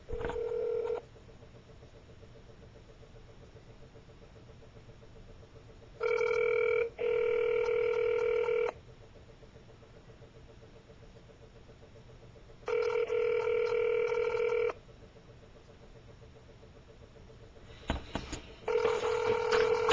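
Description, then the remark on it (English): A phone line ringing out: a steady ringback tone pulses in roughly two-second bursts separated by several seconds of quiet line hiss, repeating four times with no one answering or speaking. “Let me try calling him back one more time.”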